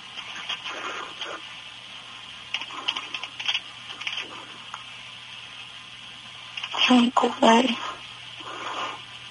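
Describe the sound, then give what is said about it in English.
Quick bursts of typing on a computer keyboard come in irregular clusters of clicks, with a faint steady hum underneath and a brief louder vocal outburst partway through. “Stop typing and keep talking.”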